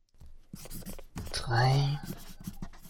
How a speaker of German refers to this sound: Ich brauche die Nummer der Universität von Los Angeles, Abteilung Kulturgeschichte, falls es sowas gibt. Ja, danke, ich notiere sie mir.